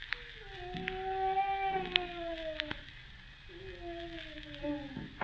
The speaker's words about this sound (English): Hector's pup, someone's in there. That was a human being moaning.